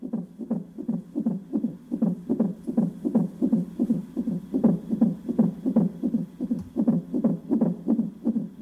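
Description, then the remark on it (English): The heartbeat of John Hull's unborn first child on a heart monitor at a maternity hospital: rapid, steady whooshing pulses, a bit over two per second, beating loudly and evenly with no voices over them. “John Hull's first memory of blindness is the sound of his unborn baby's heart beating on a heart monitor.”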